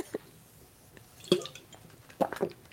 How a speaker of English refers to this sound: So I'm just going to take a swig of water.